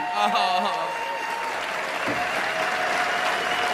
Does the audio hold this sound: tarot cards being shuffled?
no